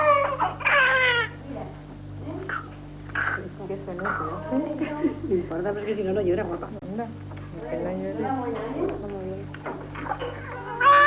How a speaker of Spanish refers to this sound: Y aquí está su primer llanto.